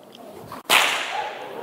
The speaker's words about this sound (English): So I want to try and illustrate how a bull, and now you'll see why. I can't be too far back, I always hit the wall. I'll try and show you how a bullwhip works.